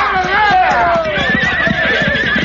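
Horses whinny loudly with long, wavering high-pitched neighs, while a steady clatter of hooves clip-clops underneath in a quick, uneven rhythm.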